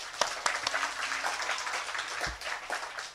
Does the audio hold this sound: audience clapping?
yes